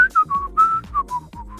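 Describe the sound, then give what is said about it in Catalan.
A person whistles a short song melody a cappella without music, a string of sustained notes stepping down and up in a slightly breathy, unsteady tune, with no talking. “Això de xiular és molt difícil, eh?”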